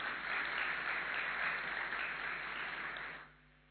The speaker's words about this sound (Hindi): ताली बजाओ जरा एक बार।